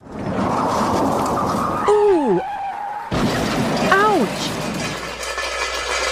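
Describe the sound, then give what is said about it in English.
A car crash: tires screech in a falling squeal, then a loud smash of crunching metal and shattering glass, followed by a second shorter screech over lingering rumbling noise. “No one ever wants to hear those sounds, but if you do, remember this name, Wheelway Auto Body and Collision Center.”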